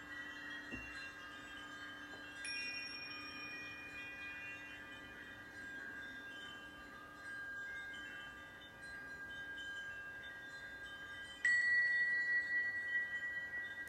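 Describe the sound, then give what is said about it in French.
Bells ring out during a guided breathing exercise, with a few separate strikes, near the start, a couple of seconds in, and again late, each leaving bright, sustained overtones that hum and linger steadily with no voices. “Au son des cloches, je vais pouvoir reprendre trois grandes respires.”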